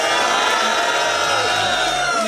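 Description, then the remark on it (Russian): A crowd at a rap battle cheers and shouts loudly and continuously before the third round, a dense roar of many voices with occasional whoops rising above the din. “Третий раунд, алфавит, дайте шум, пацаны.”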